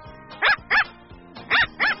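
A dog barks four times in two quick pairs, each bark short and loud. A brief pause separates the pairs, and there is no talking.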